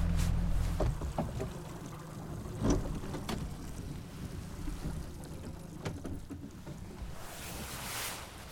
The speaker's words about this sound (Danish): Små både, der sidder fast derhenne. Er der det? Ja. Hvorhenne? Man kan høre motoren. Hvad sker der med dem? Det sejler imellem storisen der. Så skubber man til isflage og kommer videre.